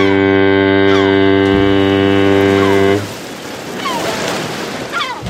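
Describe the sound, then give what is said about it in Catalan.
A deep, loud ship's horn blasts steadily for about three seconds, then gives way to a broad wash of ocean waves and surf with faint cries, likely gulls, above the water. “De cop, a la mínima, apareix un barco.”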